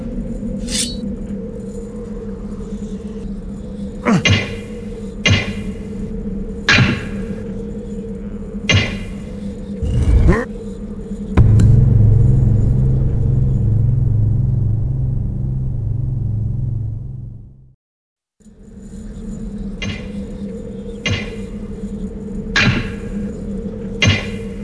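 Stones are pulled loose from a wall in a series of sharp, irregular clunks and knocks over a steady low hum, with a heavy grinding rumble midway, a brief silence, then more clunks.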